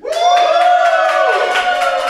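A packed live audience at a live sports talk event on 25 May 2024, the day of the DFB-Pokal final, cheers loudly for about two seconds, a sustained high, tonal whoop riding over the noise with scattered sharp bursts that could be claps.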